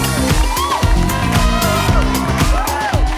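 A loud, steady wash of audience applause and cheering welcoming a guest on a show fills the whole stretch, with music playing underneath and sliding whistle-like tones rising above the noise.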